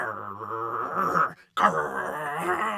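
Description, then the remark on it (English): A low, rumbling growl sounds in two sustained stretches separated by a brief silence, rough and voiced throughout, coming from Thomas's room, with no other sounds around it. “Growling sounds were coming from Thomas's room.”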